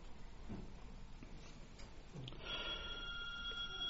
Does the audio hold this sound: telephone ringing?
yes